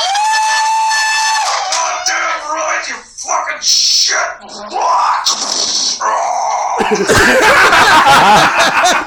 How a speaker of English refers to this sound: So on the count of three, if you could do me a favor and just make a shit ton of noise for me. One, two, three!